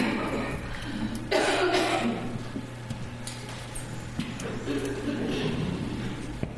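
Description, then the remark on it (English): A muffled cough bursts out once and trails off, followed by quieter throat noises over a steady low hum with faint murmuring in the background. “Turn this down, I'm going to cough.”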